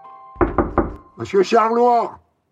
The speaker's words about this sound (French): Il est minuit, ils sont déjà au lit, bien sûr, quand quelqu'un frappe à la porte.